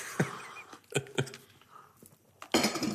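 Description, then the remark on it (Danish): A few sharp ceramic clinks as coffee cups tap together in a toast, each leaving a short ringing tone, followed by a brief rustling, shuffling noise. “Og hvis vi kan komme til at blive enige om nogle af livets spændende facetter, så bliver det et godt kaffemøde. Skål. Skål.”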